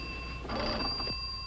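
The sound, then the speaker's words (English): A telephone bell rings steadily, a bright continuous metallic ring, with a brief rattling surge in the middle and no talking. “Oh, there's a phone.”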